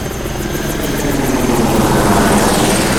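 A helicopter powers up, its rotor chop and engine whine building steadily into a loud, continuous roar as it lifts off into a clear night, leading a V formation of helicopters with red stars on the side. No voices are heard.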